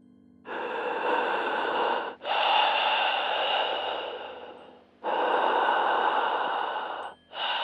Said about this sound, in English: My mom would pick up the phone when it rang to hear heavy breathing on the line.